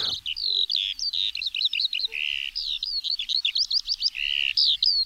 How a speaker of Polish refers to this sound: I podobnie jest z ptakami, czyli musieliśmy już, jeśli chcieliśmy usłyszeć jak śpiewają, no to trzeba by już te uszy wystawiać od nawet końca lutego, bo skowronki już śpiewają.